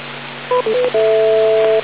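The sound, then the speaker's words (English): A quick string of electronic courtesy tones from a radio repeater: three short beeps at shifting pitches, then one long steady dual tone, four beeps in all, over a constant hiss and low hum of the radio channel, with no voices. “What we should do periodically is not only wait for a gap between conversations that gives you all four beeps, but a couple of seconds beyond that to make sure that all of the systems in the outer areas get properly reset.”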